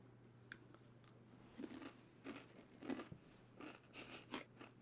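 Crisp crunching of potato chips eaten with French onion dip, in a series of irregular bites, with loud crackly bursts over a steady low hum and no talking.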